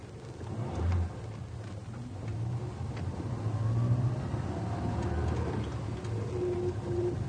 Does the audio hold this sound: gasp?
no